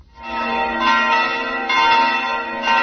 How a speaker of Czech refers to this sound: Zvona sa hrama Svetog Petra i Pavla pozvala su na svetu arhijerejsku liturgiju koju je predvodio patrijarh srpski Porfirije uz sasluženje 6 arhijereja Srpske pravoslavne crkve.